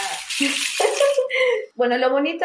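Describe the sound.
A large rain stick being turned, producing a steady rushing, pattering hiss like falling water, loudest at the start, with a voice talking over and after it.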